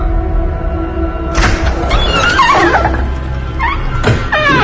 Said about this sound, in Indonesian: Dan kali ini pintu kamarku dimainkan. Jelas ku dengar pintu kamarku dibuka tutup dengan kencang.